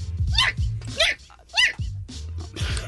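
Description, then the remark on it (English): A person's voice imitates a dog barking, giving three sharp, yelping barks in quick succession, fairly loud over a low background hum. “that was me just being a dog.”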